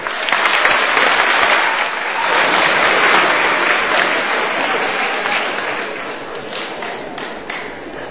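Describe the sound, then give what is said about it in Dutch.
A crowd applauds steadily for several seconds for the group remaining in a Bible quiz, dense overlapping clapping at a fairly loud, even level before tapering slightly toward the end. “Ik vind dat het een applaus waard is.”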